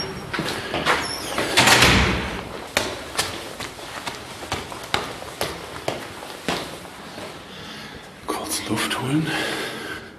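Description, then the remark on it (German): A door slides open with a rushing, scraping sweep, followed by a series of sharp clicks and knocks from handling. Indistinct voices sound faintly in the background. “So, Tür auf.”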